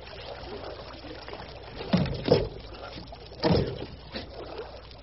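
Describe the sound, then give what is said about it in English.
Water sloshing and splashing beside a boat with its engine shut off, as a man goes over into the water with a knife to clear weeds fouling the propeller, with a few distinct bursts of churning separated by a low steady background. “Hung up with weeds, I bet. It might be something else. Yeah, give me that knife. I'm going over.”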